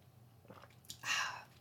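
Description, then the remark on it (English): A quiet sip of goat kefir: soft mouth sounds, then a short wet slurp lasting about half a second, with no talking. “I'm just taking a sip of goat kefir.”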